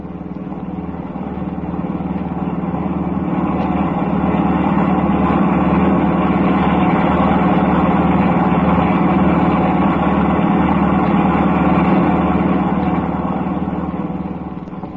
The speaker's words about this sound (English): The car starts up again.